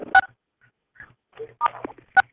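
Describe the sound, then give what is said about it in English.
Short electronic telephone keypad tones beep in a few quick bursts on a phone call-in line, each a bright dual-pitched blip, with brief gaps and faint murmuring between them, as callers are asked to press *6 on their telephones. “You need to please press *6 on your telephone, sir.”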